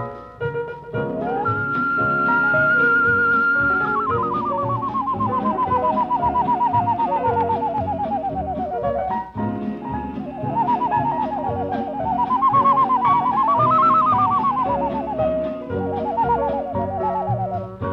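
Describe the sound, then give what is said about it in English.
A long, wavering loon call, whistled as an imitation: a high drawn-out tone that slowly slides downward, then rises and wobbles again, heard over a steady, full musical backing with no talking. “From over the cold, shimmery lake, we have the call of the loon.”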